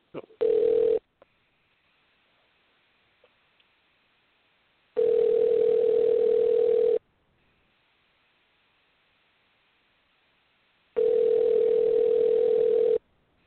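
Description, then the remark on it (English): A phone line ringback tone on a repeated call attempt, a steady electronic buzz that sounds in long two-second bursts separated by several seconds of quiet line hiss, heard clearly with no one speaking. “Yeah, okay, let me go ahead and try one more time here.”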